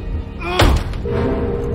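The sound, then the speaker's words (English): A man's fist thumps hard against a basement door barred with a screwed-on plank, one heavy, booming blow that quickly fades, over a steady low background hum with no voices. “She screws the last screw in as he pounds on the door.”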